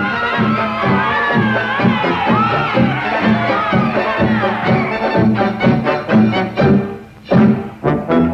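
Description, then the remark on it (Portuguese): A loud radio studio audience cheers and shouts together, with rhythmic clapping growing sharper and more distinct toward the end, applauding enthusiastically. “e também eram rádios como se fossem rádios comunitárias, porque as pessoas frequentavam os estúdios, né, para aplaudir, para torcer pelos seus artistas favoritos nos concursos.”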